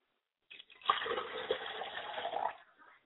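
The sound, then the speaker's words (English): Water pours into a glass in one steady stream lasting about two seconds, then trails off into quiet. No one speaks. “I like to pour a glass of water for my father's spirit and I say, I say.”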